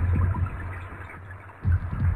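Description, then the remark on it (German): A steady wash of rain pattering on ocean waves, with deep rumbling and grinding from icebergs scraping against each other swelling in low pulses, loudest at the start and again near the end; the ocean as it originally sounded, before marine animals. No voices. “So hörte sich der Ozean ursprünglich an. Regen prasselte auf die Wellen, Eisberge schuppern sich.”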